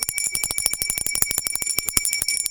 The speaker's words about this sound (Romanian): Aici, la Bălănești, începutul de an școlar a fost unul lipsit de extravaganță, lux sau oficialitate, bunul simț și modestia fiind elementele de bază ale celor aproape 60 de minute petrecute înaintea sunetului de clopoțel.